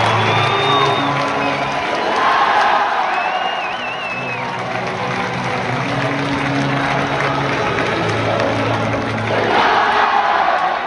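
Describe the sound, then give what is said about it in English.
A big stadium crowd roars and sings together in sustained, chant-like tones, with cheers, whistles and shouts rising over the steady wall of voices throughout. “But you're talking about something that gets the crowd engaged.”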